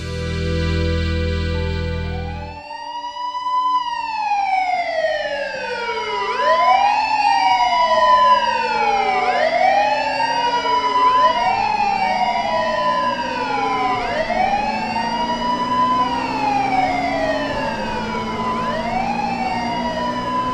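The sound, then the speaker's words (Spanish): Several emergency vehicle sirens wail together, their overlapping rising and falling tones sweeping continuously and loudly after a brief low rumbling opening, with no voices present. “Parece no inmutarse al escuchar las sirenas que le retumban en el alma.”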